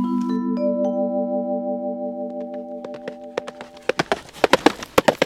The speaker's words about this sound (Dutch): Daar komt Sheriff Brown aan. Hij rijdt op zijn paard Buck.